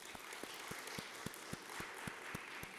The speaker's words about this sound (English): We're applauding for Clarence Jordan, aren't we?